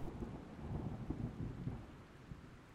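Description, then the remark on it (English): Heavy rain pours down steadily from a big, heavy storm while deep thunder rumbles and rolls underneath after a bolt of lightning, loud, with no voices. “Then came a big, heavy storm. Rain pouring down from the sky.”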